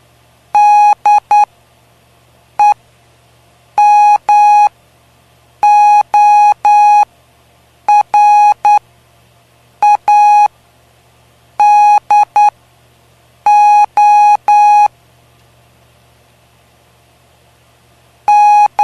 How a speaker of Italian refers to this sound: M O R S E. Morse.